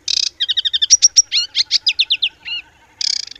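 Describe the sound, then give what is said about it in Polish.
An aquatic warbler sings clear on a bog in a national park in Poland: a buzzy rattle, then rapid chattering phrases and fluty notes in quick succession, ending with another harsh rattle. No voices. “Ale jak wchodzę na to truwowisko, na bagno, ja mam ten przywilej, że Rada Naukowa Polskiego Parku pozwala mi na prowadzenie obserwacji ptaków w Polskim Parku, w Parku Narodowym, i słyszę wodniczki.”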